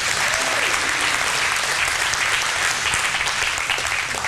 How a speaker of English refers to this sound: We cracked 400, and we were over 400 every single Sunday in December. Now, that's an applause line right there, right there.